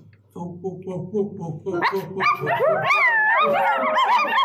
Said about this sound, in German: Und ich habe euch noch verraten, ich habe eine Zaubermaschine, mit der kann man Tiergeräusche machen. Hört mal, ich pass mal auf, ich drück mal drauf und jetzt hört ihr ganz nur, ihr hört jetzt nur Hundegeräusche.